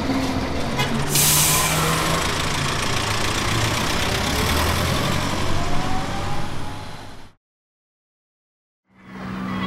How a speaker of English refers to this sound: Hey, you're just in time. The bus is coming now.